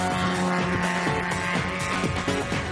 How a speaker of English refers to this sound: Looks like he's got better acceleration than the destroyer's car, doesn't he? Here he comes. Oh, I hope he's not going too fast in this bend here. Jeez, he's coming over there a bit sharper.